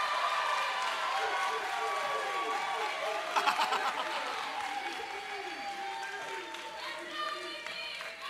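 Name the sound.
audience applause and cheering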